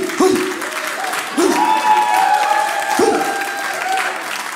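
An audience claps steadily for a few seconds, a dense crackle of many hands, with a few whoops and sustained whistles rising over the applause.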